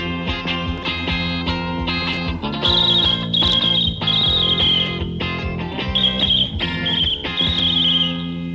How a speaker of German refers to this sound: unterschätztes Instrument, Trillerpfeife.